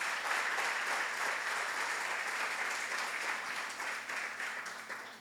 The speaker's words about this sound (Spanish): Dale un aplauso a la palabra de Dios.